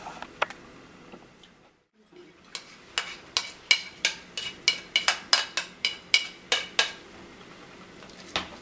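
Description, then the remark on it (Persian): A spoon scrapes and clinks against a bowl in a quick, steady series of sharp, bright taps while ingredients are mixed (plums, dried herbs, onion, egg, chickpea flour, turmeric, salt, pepper and tomato paste), after a brief pause near the start; no one speaks. “یک عدد پیاز بزرگ، یک عدد تخم مرغ، یک قاشق سرخالی غذاخوری آرد نخودچی، زردچوبه، نمک، فلفل، آبیشم و رب گوجه فرنگی که اینا رو در عین مخلوط شدن برای شما توضیح میدم.”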